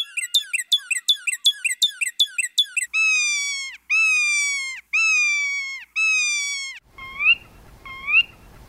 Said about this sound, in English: They'll be parked on the street near various museums or art institutions. And when people walk by them, like with a real car alarm, they'll sometimes trigger it without knowing it, and the cars will start shrieking and chirping and doing their thing.